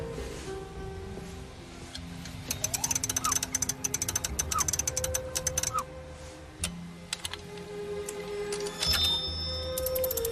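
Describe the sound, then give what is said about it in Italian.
A clockwork automaton, set going with its key, whirs into motion and begins to write, a low hum giving way after a couple of seconds to rapid, uneven bursts of dry mechanical clicking and ticking, with sustained soft tones underneath. “Dopo qualche secondo l'automa comincia a scrivere”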